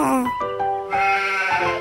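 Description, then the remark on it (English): A hungry cartoon sheep on the Fox network Baby TV, being fed by Oliver the cartoon monkey, bleats in two wavering, nasal calls, loud, the second longer and more tremulous, with no other sounds around it. “The sheep is hungry as well.”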